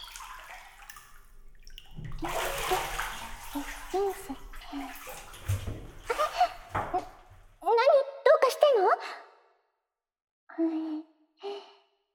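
Shower water hisses in a steady spray for about five seconds as a woman washes her back, then cuts off, followed by a few breathy sighs and short gasps from her.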